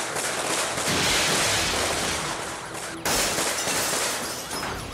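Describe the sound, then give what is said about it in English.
Rapid, overlapping gunshots crackle in a sustained barrage as deputies return fire at an armed suspect, loud, with sharp bursts layered over a dense roar of noise and no voices heard. “The deputies have no choice but to return fire.”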